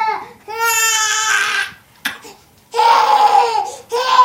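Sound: baby crying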